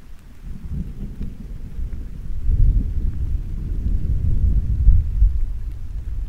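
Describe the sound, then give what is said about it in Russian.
Deep, rolling thunder rumbles over a steady wash of rain, swelling louder partway through and cresting near the end of a stormy stretch, with no voices present. “Вот она, убедительность воздуха после грозы.”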